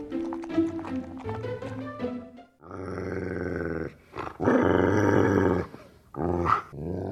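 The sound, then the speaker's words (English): A dog, Komdung, growls loudly in several rough, rumbling bouts at a dog trough outside a kitchen door, bristling his shiny fur and baring white teeth: a choppy stretch at first, then long sustained snarls separated by brief pauses, ending with a short final growl. “Even before Shindong reached the trough, Komdung bristled his shiny fur and growled, baring his white teeth.”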